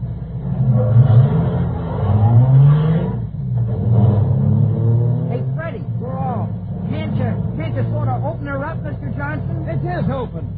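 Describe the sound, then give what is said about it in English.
A car engine roars and climbs in pitch as it accelerates hard in a race against another car, a steady low rumble that continues under excited voices talking over it in the second half. “We'll beat him or I'll give you the car. Look at her pickup”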